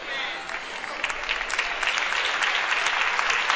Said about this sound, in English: Keep clapping if you're clapping. If you ain't clapping, don't clap. See the people clapping? That's the ones that take those classes. See the people not clapping?